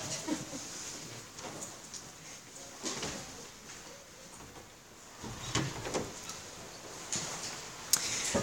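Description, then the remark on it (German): A door is handled and pushed shut, with a few scraping, clunking knocks spread over several seconds against a faint background hiss; the sounds are fairly quiet. “Ich mach mal die Tür an.”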